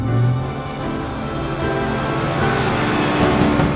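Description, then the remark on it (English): Steady engine rumble and road noise from inside a bus as it slows toward a stop, with a low hum early on and no voices. “Actually, I'm gonna wait till the bus stops and then I'll get off.”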